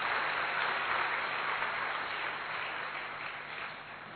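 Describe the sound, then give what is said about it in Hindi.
Steady applause from a crowd at the Brahma Kumaris Gyan Sarovar Academy, welcoming the joint chief of the Brahma Kumaris: a dense wash of many hands clapping at a constant level for about four seconds before easing slightly at the end. No voices are heard. “ये हम सभी का बहुत बड़ा सौभाग्य है और हम जोरदार तालियों से आपका अभिनंदन करते हैं।”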